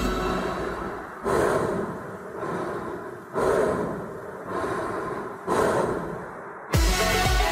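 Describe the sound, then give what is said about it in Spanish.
Slow, steady human breaths in and out, alternating in a regular rhythm of about six cycles with no talking, ending in a louder, sharper inhale. “Este proceso se produce con cada respiración.”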